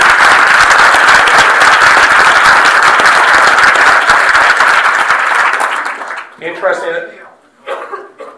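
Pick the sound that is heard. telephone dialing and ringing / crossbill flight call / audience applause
audience applause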